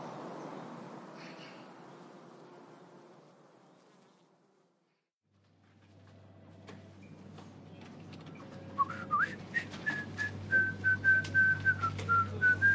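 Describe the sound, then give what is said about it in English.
A person whistles a bright, bouncy medley of sitcom themes in the second half while walking past office cubicles, the melody stepping up and down over sharp clicks, after a low insect-like buzzing and hum fill the opening seconds. “whistled a lively medley of sitcom themes as he walked past his underlings in their cubicles and stepped into his luxurious office”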